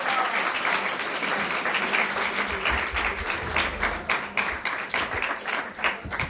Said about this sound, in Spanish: Así que, pues nada, chicos, muchísimas gracias por subiros. Ahora dentro de un rato seguimos hablando con más compañeros, así que nada, muchísimas gracias y un fuerte aplauso para ellos.